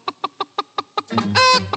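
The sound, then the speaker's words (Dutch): A hen clucks six times in a steady, evenly spaced rhythm, then breaks into a louder, drawn-out squawking cackle before settling into a couple more clucks, clear. “Tok-tok-tok.”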